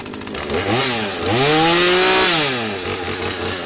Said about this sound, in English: I do chainsaw carving. I do signs, tikis, easy stuff. It's just fun.